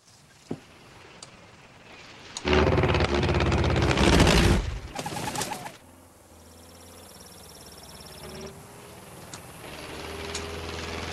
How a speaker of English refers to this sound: Still dusting, the plane speeds low over the sorghum crop. Santiago is still at the controls.